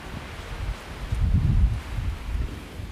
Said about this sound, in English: You can probably hear the wind and the sea at the background. I don't know if you can hear the sea, really.